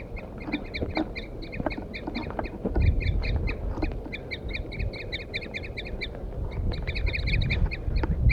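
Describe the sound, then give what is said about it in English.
Wild birds, mostly a wild male, call continuously in quick, repeated high-pitched notes while attacking after a 4-3 song recording was left on a stump, several voices overlapping in a busy, fairly loud chorus over a low rumbling background, with no talking. “The recording, I had left 4-3 on the stump, and I got the wild birds now attacking him.”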